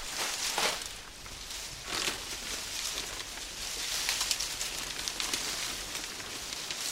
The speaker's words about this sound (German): Hui, der Wind wird immer stärker. Jetzt kommt ein typischer Herbstwind auf.